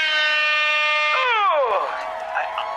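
A loud, sustained air horn blast at a comedy stage, going off when the audience stops laughing, holds a steady blaring tone, then sags and drops in pitch as it fades out, with no talking over it.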